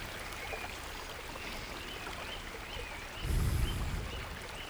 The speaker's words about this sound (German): Um dich herum rauscht das Wasser immerzu vor sich hin.